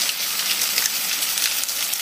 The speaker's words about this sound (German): Ah, das ist irgendeine Pfanne, die brutzelt. Genau. Und was brutzelt da in der Pfanne? Oh, das ist jetzt schwer. Also es ist auf jeden Fall Fett und irgendwas, was da reingetan.